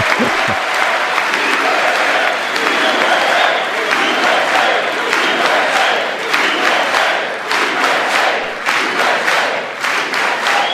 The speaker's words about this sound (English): By the way, the applause you hear is coming from a little bit more than half of the room.